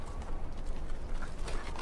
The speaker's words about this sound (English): I can hear soldiers marching and horses galloping.